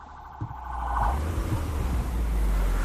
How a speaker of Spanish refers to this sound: Chega o cero, chega o coche cero aquí, un Toyota Yaris, moi bonito, de feito.